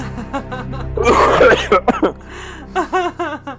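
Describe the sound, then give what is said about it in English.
A single harsh, rasping cough bursts out loudly in the middle, with voiced vocal sounds before and after it. “He has a lovely cough.”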